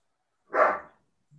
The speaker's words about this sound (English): Woof. Oh, sorry. I'll mute myself now.